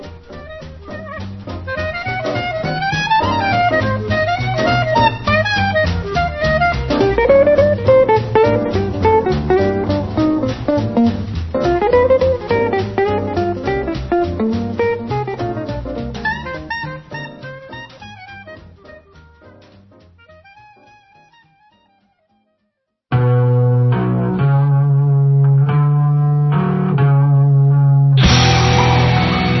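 Loud, screeching punk rock by a Canadian punk band, with harsh distorted guitar and wailing, sliding pitches. It fades to a brief silence, then a second burst of steady, driving music kicks in abruptly. No talking.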